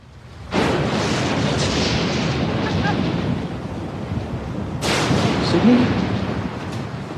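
A thunderstorm at night: a sudden loud crack of thunder rolls into a long, heavy rumble, then a second booming clap follows a few seconds later, powerful, with no voices.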